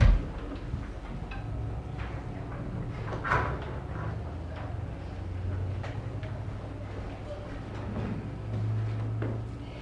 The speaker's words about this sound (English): So I'm going to hit the door so we're not disturbed.